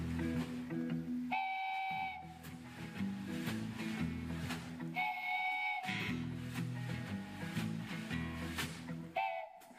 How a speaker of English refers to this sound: It's called a wooden train whistle.